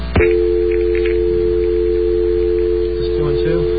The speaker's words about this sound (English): So I have the page open to Starbucks. So I figure I'll give them a try. All right. Dial tone.